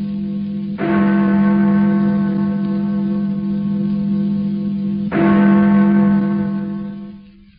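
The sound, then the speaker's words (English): A deep church bell tolls twice, about four seconds apart, each heavy strike ringing out with a long, humming sustain before slowly fading. No voices, just the resonant bell. “And therefore, never send to know for whom the bell tolls. It tolls for thee.”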